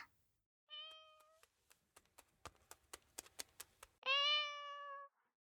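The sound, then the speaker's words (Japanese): A cat named Dai-chan meows twice, a shorter call followed by a louder, drawn-out one, with a quick series of light tapping footsteps in between, and no talking. “あ、かわいこちゃん来た。大ちゃんですよ。”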